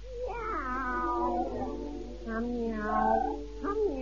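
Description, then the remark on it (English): Two voices in a song meow together like a pair of cats singing a duet, drawn-out wavering calls that rise and fall in several sung phrases, fairly loud. “But he swears it sounded like two cats. Yeah? Singing a duet.”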